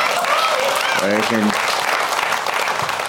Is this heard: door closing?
no